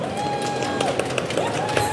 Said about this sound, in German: Darf ich, ist das unverschämt, wenn ich einmal einen kleinen Applaus höre?